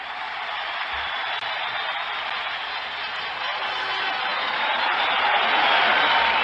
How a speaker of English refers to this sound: All right, enough of the applause. I want to hear the announcer.